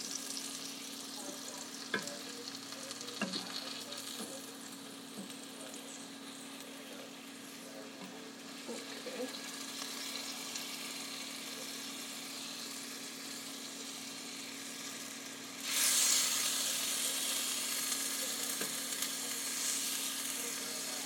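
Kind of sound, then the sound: food or drink, chicken browning and sizzling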